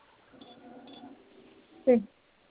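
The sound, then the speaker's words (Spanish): A single short electronic beep from a keypad as the hash key is pressed sounds fairly loud near the end, following a stretch of faint, murmuring voices in the background. “Vamos a presionar tres veces la tecla de gato.”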